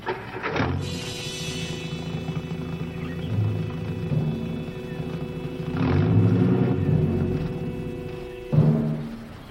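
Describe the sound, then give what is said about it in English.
A car engine rumbles steadily with a low, droning tone, swelling and sputtering at a few points as the car starts and stops, with no talking over it. “The car starts and stops, and that really does it, huh?”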